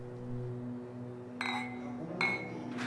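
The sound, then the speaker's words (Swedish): Glasses clink together in two or three bright, ringing touches as men raise their glasses and toast with women at a table, fairly loud, over a low steady hum, the chimes lingering briefly after each strike. “höjer sina glas och skålar med kvinnorna.”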